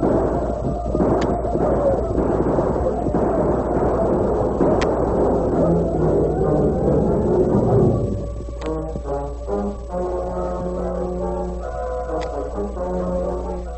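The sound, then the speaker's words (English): A dense, rumbling clatter of galloping hooves as twenty or more riders charge into a village with guns firing, sharp gunshot cracks bursting through for about eight seconds, then giving way to steady, sustained orchestral music. “Hiram Lynn, leading 20 or more men, galloped into the village with guns in action.”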